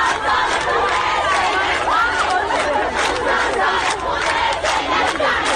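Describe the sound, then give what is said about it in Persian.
A loud, dense crowd of young school students shouting and chanting protest slogans together, voices rising and falling in a steady rhythmic roar with overlapping yells throughout. “این نسل جدید و دهه 90 یا اما کلن دلیل اعتراضشون و مدل شعار دادنشون فرق میکنه.”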